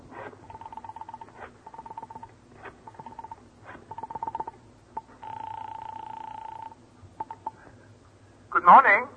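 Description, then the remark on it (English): A telephone is dialed in a quick run of short, even tone bursts, followed by a steady ringing tone on the line, a few clicks, and a brief loud burst at the end. “You quickly reach for the phone.”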